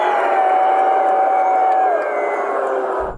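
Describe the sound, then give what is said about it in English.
A huge capacity crowd at MetLife Stadium roars and cheers in one loud, unbroken wall of noise for about three seconds, with a sustained whistle-like tone rising out of the din. “Oh, the capacity crowd at MetLife Stadium.”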